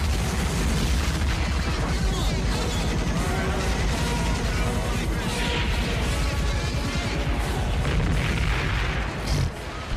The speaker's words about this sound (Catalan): Explosió aquí